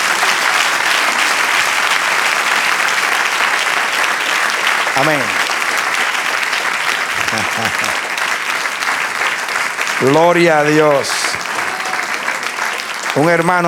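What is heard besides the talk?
church audience applause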